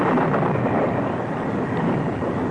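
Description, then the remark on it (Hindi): A loud, continuous rumble of thunder from storm clouds over a river rolls through a stormy wash of noise, deep and steady for the whole stretch with no voices present. “धीरे धीरे बादल भी गरजने लगे।”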